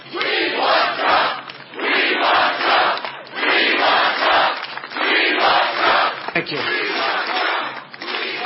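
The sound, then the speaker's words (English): A large rally crowd chants in loud, rhythmic bursts outdoors beside cornfields, voices swelling and dipping together in a steady repeated cadence that fills the whole stretch. “By the way, this is not only a big crowd.”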